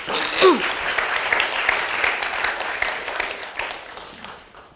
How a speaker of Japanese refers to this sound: I just want to just get my team to just stand. 私のチームを紹介したいと思うんですけども、拍手を持って迎えていただけたら嬉しいんですけれども。